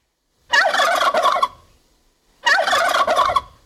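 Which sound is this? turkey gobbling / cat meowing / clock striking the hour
turkey gobbling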